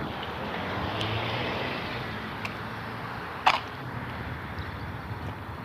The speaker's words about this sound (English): All of a sudden, the traffic.